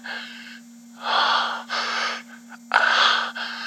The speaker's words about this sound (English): Hearing you panting and moaning is ramping everything up for me.